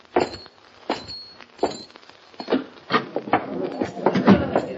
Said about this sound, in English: Hop Along Cassidy and his pal California ride down the nearly deserted street and head for the Silver Dust Cafe, where they are to meet Sheriff Duncan. They dismount at the hitching rail, walk to the entrance, and open the door.